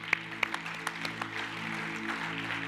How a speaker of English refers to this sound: Why don't you clap your hands this morning?